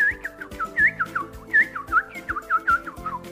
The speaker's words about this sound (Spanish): Los pájaros cantaban alegremente.